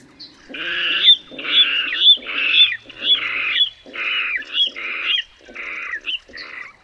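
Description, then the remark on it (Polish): A water rail gives its squealing courtship song, given by both male and female: about eight harsh, piglet-like squeals in a steady run, loud, with no talking. “Pieśń godowa wodnika, wydawana zarówno przez samca, jak i samicę, to ostry kwik przypominający kwik prosięcia.”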